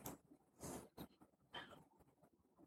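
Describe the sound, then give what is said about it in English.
A few soft, irregular clacks of keys being pressed on a USB computer keyboard as a username is typed and enter is pressed, quiet, with short pauses between strokes and no voices. “And I'm going to hit enter on my USB keyboard.”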